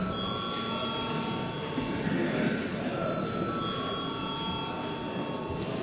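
A parliament voting bell, rung at the chair's request before a vote on a bill in its first reading, rings continuously for several seconds, a steady bright metallic tone with sustained high overtones, over a soft background murmur.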